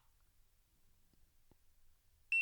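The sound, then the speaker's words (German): After a couple of seconds of near silence and a faint click, an electronic device lets out a sudden, loud, high-pitched beep as it is switched on by holding its only button for about two seconds, cut off at the end. “Ja, und jetzt habt ihr sogar gehört, dieses Gerät macht einen Piepton, wenn man es einschaltet.”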